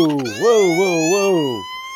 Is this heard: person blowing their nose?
no